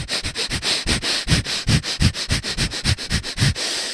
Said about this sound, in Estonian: esimene etapp on nagu hästi intensiivne nina hingamine 10 minutit. Et sa hingad nii intensiivselt. Suu kinni ainult nina kaudu.